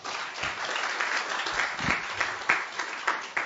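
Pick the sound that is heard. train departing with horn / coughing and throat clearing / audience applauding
audience applauding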